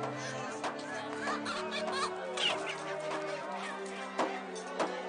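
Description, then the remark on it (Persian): Birds cluck busily throughout, a dense overlapping chatter of several fowl with a few sharper squawks standing out, set against a steady low hum. “میتوانم پرنده ها رو ببینم؟”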